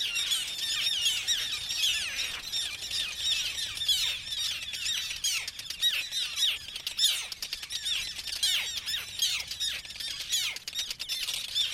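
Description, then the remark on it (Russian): Harsh, grating alarm calls of common terns ring out continuously, many birds overlapping in a loud, agitated chorus of rasping shrieks, with no voices present. “Я предлагаю послушать тревожный крик речной крачки.”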